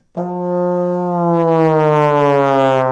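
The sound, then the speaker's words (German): A trombone blown while its slide is pushed out, one sustained brassy tone that glides slowly and smoothly downward in pitch for about three seconds, fairly loud and alone. “Dafür braucht er lange Arme und wenn man seinen Zug ausfährt und gleichzeitig in das Instrument hineinbläst, klingt das so.”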